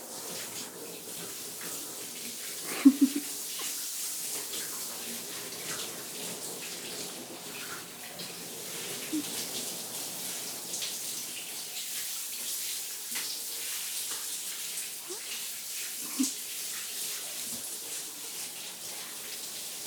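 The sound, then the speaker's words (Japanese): Steady running water pours and splashes continuously, like a shower rinsing soap suds off someone so no foam is left, with a few louder splashes and drips breaking through the constant hiss. No one speaks. “うん、よし、それじゃあ洗い流しちゃうね。 ちょっと 泡が残らないように。”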